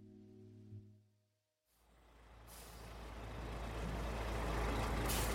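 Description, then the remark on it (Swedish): A fire truck with an aerial ladder: a low droning horn-like tone, a brief pause, then a loud hiss of air brakes and a rumbling engine that swells and continues. “Det är en brandbil som vi brukar kalla för en stegbil eller en hävare”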